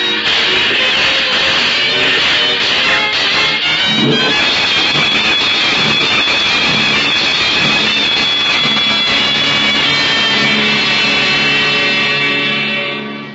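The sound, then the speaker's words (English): A train rumbles steadily along the rails, loud, with a dense rattling clatter and metallic squeal layered over a constant low roar for the whole stretch, no voices. “If someone hadn't warned us with that lantern, this train would be a wreck right now.”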